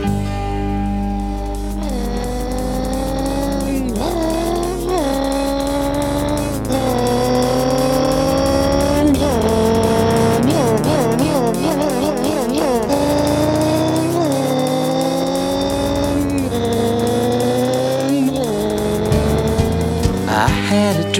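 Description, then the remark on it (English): A loud race car engine screams through repeated revs and gear shifts, its pitch climbing and dropping as cars whoosh past, continuous for the whole stretch with no talking. “A driving machine, a race car was I. I'd step on the gas and get going so fast and watch all the cars go by.”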